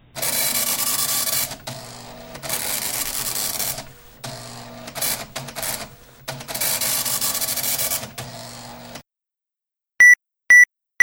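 A printer runs in loud, buzzing mechanical bursts, several passes separated by brief pauses, then falls silent before three short, high-pitched beeps sound in quick succession.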